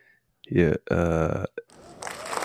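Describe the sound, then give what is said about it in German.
A couple of loud, throaty voiced bursts give way to a short swell of dense, crackling clapping-like noise that builds toward the end, like applause starting up: a round of applause for Damar Hamlin. “Eine Runde Applaus für den Kollegen, Mann.”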